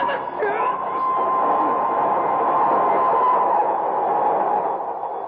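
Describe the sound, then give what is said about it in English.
A train approaches, rumbling steadily along the tracks with a sustained, fairly loud roar and a brief squeal near the start, while a murmuring crowd and indistinct voices sit underneath. “I can hear a train approaching”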